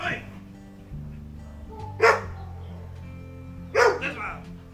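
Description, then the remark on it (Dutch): A dog behind the gate of an animal shelter, where a man stands with it, lets out two sharp, separate barks about two seconds apart, fairly loud, over a steady low background hum. “Achter de poort staat een man met zijn hond en de man roept heel hard tegen het beest.”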